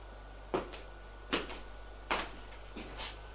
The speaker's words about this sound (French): Elle ouvre une porte qui est dans le hall et éclaire.